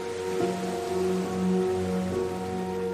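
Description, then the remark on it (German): Gentle, continuous splashing of springs blends with a soft hiss of wind rushing through trees, steady and unbroken, while a low sustained musical drone hums underneath throughout. “Du hörst die sanfte Melodie des Windes, der durch die Bäume rauscht, und das leise Plätschern der Quellen.”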